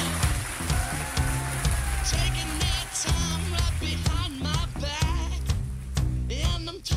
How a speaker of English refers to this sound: Nous avons le plaisir de recevoir, mesdames et messieurs, un tonnerre d'applaudissements pour Roy Thomas.